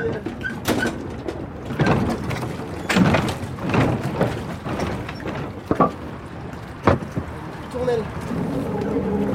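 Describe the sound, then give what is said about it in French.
A powerful boat motor roars steadily on the Seine river, loud, with sharp thumps and splashes of water breaking through and muffled voices now and then. “Ouais, le moteur il est quand même puissant.”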